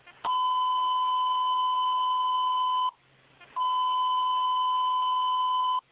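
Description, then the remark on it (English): Two long, loud steady electronic alert tones, each lasting a few seconds with a short gap between, fire dispatch alerting tones over a radio channel sounding a second alarm, with units staging at 4th and H Street Northeast. “Second alarm being sounded, engine 2, 8, 7, and 23.”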